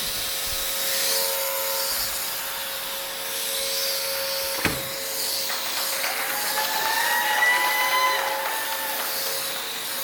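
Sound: vacuum cleaner running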